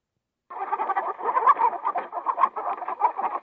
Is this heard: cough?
no